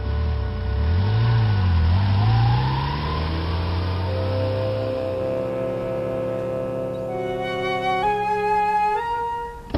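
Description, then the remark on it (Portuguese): A car engine revs up and pulls away, its pitch rising and falling through gear changes before climbing steadily as it accelerates, loud with no voices. “Eu entro no carro e vou em direção até aquela rua onde mataram a Latisha.”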